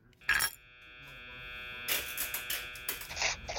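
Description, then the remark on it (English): A steady electric apartment door entry buzzer drones for several seconds as a visitor at the front door is buzzed in, a harsh, nasal hum broken by sharp clicks and rattling bursts near the start and again toward the end. No one speaks. “Well, let me buzz you in.”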